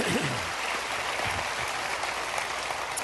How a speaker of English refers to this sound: Go ahead and clap for that if you want to.